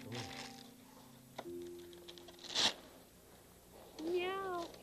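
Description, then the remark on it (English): Soft rustling, a faint hum and a brief sharp crinkle as a box is slowly opened, then a single drawn-out cat meow from inside it that rises and falls near the end. “Meow, meow. Well, there's something inside.”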